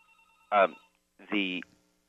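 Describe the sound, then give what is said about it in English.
A telephone rings in two short, bright electronic bursts separated by a brief pause, fairly loud against a quiet background. “But, excuse me, this phone is ringing. It shouldn't be.”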